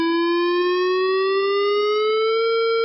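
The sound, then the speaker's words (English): A loud warning siren at San Onofre Nuclear Power Station wails in a single continuous tone that slowly climbs in pitch, with no voices or other sounds. “It is the sound of a warning siren going off at a nuclear power plant.”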